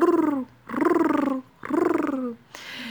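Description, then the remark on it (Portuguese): A human voice imitates an owl's call with three drawn-out, moderately loud hoots, each rising slightly and then sliding down in pitch, separated by short pauses, followed by a brief breathy hiss. “Soava o canto da coruja, fazendo...”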